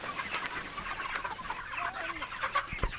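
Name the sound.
chickens clucking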